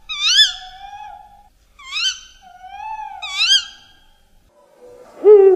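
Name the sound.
owl hooting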